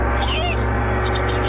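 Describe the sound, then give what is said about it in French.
A loud gong rings out in a quiz, marking the end of the five-second answer time, and sustains for the whole moment, its deep humming tone steady with shimmering, wavering overtones above it. “Beethoven juste avant le gong.”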